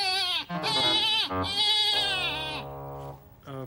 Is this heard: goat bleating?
yes